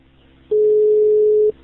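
A single steady telephone ringing tone, heard over the line as police call a man at 15:36 on a Sunday afternoon while the call waits to connect, lasting about a second over a faint low background hum, with no voices.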